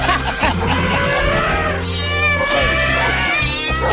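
A cat meows continuously and loudly, its drawn-out, wavering cries rising and falling in pitch over a low background hum.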